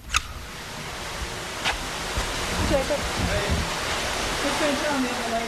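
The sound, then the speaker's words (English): Steady, continuous rush of running water in the tanks of a cold water fish hatchery run by the Keweenaw Bay Indian community, where dozens of small brook trout swim; a dense hiss that stays even throughout, with faint indistinct voices murmuring underneath. “Step inside the cold water fish hatchery run by the Keweenaw Bay Indian community, and you see dozens of small brook trout swimming in the tanks.”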